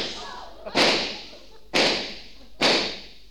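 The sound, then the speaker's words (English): Old car tires blow out in three loud, sharp bangs, about a second apart, each trailing off in a brief hissing rush of air. “I wonder how far we're going to get on these old tires.”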